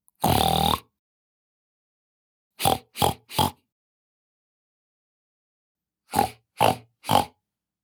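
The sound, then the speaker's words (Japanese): A voice imitates a pig: one long, drawn-out snorting grunt, then two quick bursts of three short oinks each, loud, with silent pauses between. “ブヒブヒしちゃうぞー。ブタです。”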